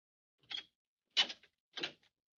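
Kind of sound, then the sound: household object, door being opened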